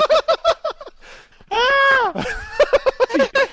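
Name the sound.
woman screaming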